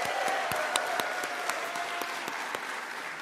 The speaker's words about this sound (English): So let's give her a round of applause for that.